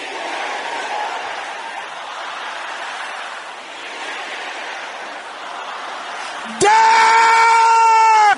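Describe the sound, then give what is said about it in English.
A large audience shouts prayers and cries out at once, a dense, continuous roar of overlapping voices, until a loud, piercing sustained tone abruptly cuts in for the last two seconds. “Can I hear you shouting those things?”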